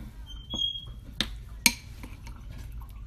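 A utensil scrapes and clinks against a bowl while a cream mixture is stirred, with two sharp taps standing out and a brief high squeak early on, fairly quiet.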